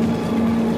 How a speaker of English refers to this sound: Listen to that drone of the engines. I even like the vibrations.